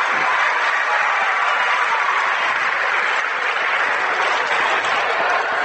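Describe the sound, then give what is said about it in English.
A large crowd at a basketball game between Jackson Center and Bradford erupts in loud, sustained cheering and applause after a Jackson Center player scores, a dense wall of clapping and shouting that holds steady for several seconds. “And the Jackson Center crowd goes crazy.”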